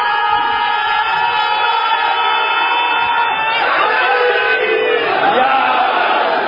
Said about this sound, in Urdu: دیکھیے میں آپ سے نعرے طلب نہیں کرتا، مگر یہ ضرور طلب کرتا ہوں کہ جب نعرہ لگاؤ تو نعرے کی طرح ہونا چاہیے.